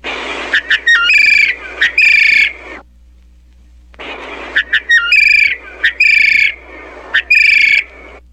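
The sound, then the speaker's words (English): A bird named Billy gives two bursts of bright, whistled, warbling call notes, imitating a thrush call, with a short pause between phrases; clear, no talking. “Fine, Billy, but I've heard you give many more beautiful thrush calls than that. Now try another.”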